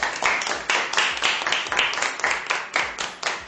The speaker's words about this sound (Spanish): Estamos aquí para daros las gracias y aplaudiros porque seguís al pie del cañón. Por eso... Gracias. Y junto con este aplauso recibid nuestro agradecimiento, reconocimiento y cariño.